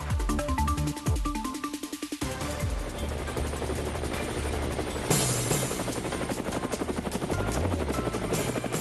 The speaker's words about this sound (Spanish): Bueno, ahí está el helicóptero.